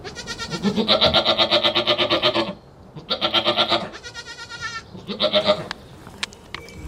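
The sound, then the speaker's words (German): Dairy goats bleat loudly in a barn, several long quavering cries overlapping in quick succession, followed by a brief lull with a few faint clicks and rustles. “Die älteren Ziegen behalten ihre Lämmer und werden trotzdem morgens und abends gemolken.”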